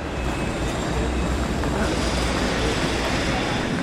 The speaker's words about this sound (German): Ein Novembermontag im Zürcher Bahnhof. Es wird gebaut. Überall.